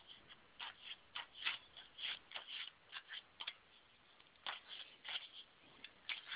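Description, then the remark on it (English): A deck of cards being shuffled, a steady run of soft, crisp riffling bursts and flicks in an irregular rhythm, fairly quiet with no voices over it. “I'm shuffling now for you, so just tell me when to stop.”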